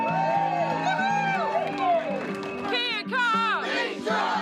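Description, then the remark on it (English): A loud, vocal crowd gathering on the morning of the Disability Fights Back protest at the Bridge of Remembrance in central Christchurch: many overlapping voices shouting and calling out at rising and falling pitches, with cheers breaking through in a steady, unbroken din. “A vocal crowd is gathering.”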